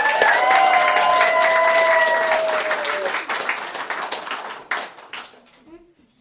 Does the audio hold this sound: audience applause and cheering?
yes